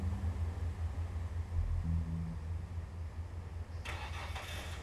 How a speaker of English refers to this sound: The car started up and drove off.